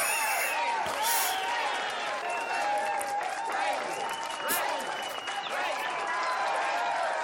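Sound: crowd applauding and cheering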